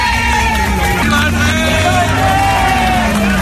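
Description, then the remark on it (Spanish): A large crowd cheers and applauds in a loud, unbroken wash of clapping and raised voices, with a few sustained shouts and whoops rising above the din, welcoming King Juan Carlos with Spanish flags as he arrives at the Palacio de la Zarzuela at 10 a.m. “Pues así, con aplausos, con vítores y también con banderas de España, era recibido cuando a las 10:00 de la mañana llegaba la Zarzuela.”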